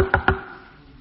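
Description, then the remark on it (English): Two quick, solid knocks on a door, fairly loud, each with a short hollow ring that fades into quiet afterward. “Then a week or two later, I hear this at the door.”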